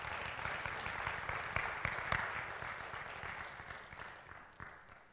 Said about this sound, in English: Worship today was wild. It was so good. Like, thank you, worship team. Thank you. Yes, clap for them.